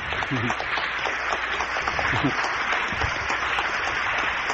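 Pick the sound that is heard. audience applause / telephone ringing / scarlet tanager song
audience applause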